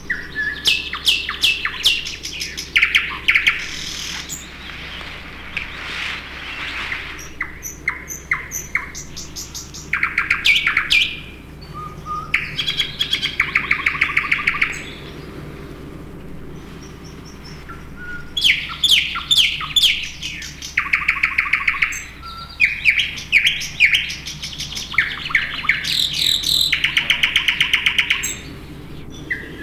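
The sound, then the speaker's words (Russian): A thrush nightingale sings loudly, pouring out rich phrases of rapid clicks, rattling trills and bright whistles, with short pauses between bursts over a low steady hum. “И, наконец, восточный соловей. Пение его можно услыхать за километр. Мощное, раскатистое, яркое.”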